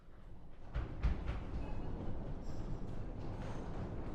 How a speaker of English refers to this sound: When you hear a reference to death or hell, I want you to stomp your feet. Or I want you to hit the pew as hard as you can. I mean, let's hear it.